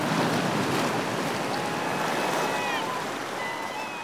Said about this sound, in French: Même sans voir l'océan, on pouvait deviner sa colère. Le vacarme tonitruant des flots violents explosant sur la côte de granit tailladé depuis des siècles, s'intégrait avec celui du vent dans une symphonie terrifiante.